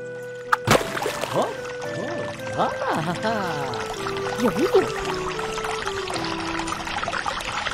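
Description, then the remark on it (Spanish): A sharp knock rings out as Moses strikes the hill near Horeb with his staff, then water gushes and pours steadily from it for several seconds while voices talk and call out over the rushing flow. “Dios le dijo a Moisés que golpeara con la vara la colina que estaba cerca de Horeb, y brotará agua de ella para que beba el pueblo.”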